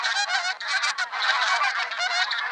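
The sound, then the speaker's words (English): A flock of pink-footed geese honking continuously, many overlapping high, nasal calls forming a dense, steady, loud chorus, with no talking. “Pink-footed geese sometimes mingle with taiga bean geese, a species that visits Novaya Zemlya when it's time to molt each spring.”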